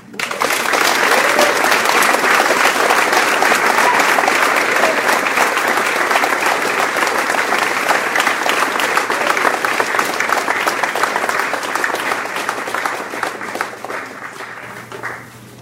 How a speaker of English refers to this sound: then rising shakily, bows to deafening applause.